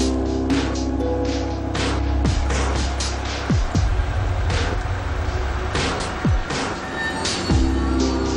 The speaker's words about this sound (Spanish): Un coche se acerca.